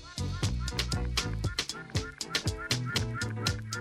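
A busy chorus of poultry cackles and gobbles continuously, overlapping calls with a steady pulsing rhythm, fairly loud, with no one talking.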